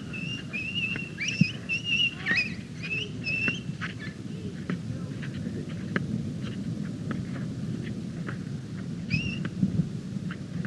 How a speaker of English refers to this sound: But the bird doesn't know that he's chanting. No, he doesn't.